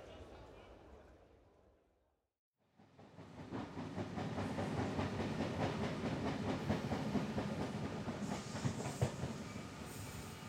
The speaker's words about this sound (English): Our train is coming now.